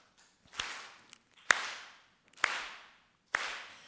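Four sharp, evenly spaced hand claps in a steady rhythm, roughly one per second, each snapping out crisply and trailing off in a brief ring before the next, as a speaker claps to start a group song and invites the audience to join. No voices.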